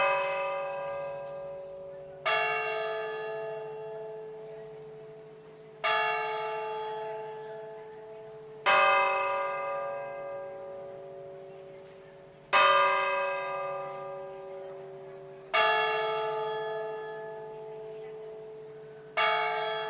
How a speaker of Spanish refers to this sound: El toque de difuntos de las campanas.